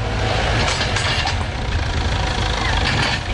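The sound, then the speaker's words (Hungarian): A heavy excavator engine drones steadily throughout, a deep continuous rumble with a rough mechanical hiss above it and no speech. The excavator is reinforcing the side of a flood levee on the Budapest–Szob stretch in Hungary. “Most a markológép a gát oldalát igyekszik megerősíteni, félve az újabb víznyomástól.”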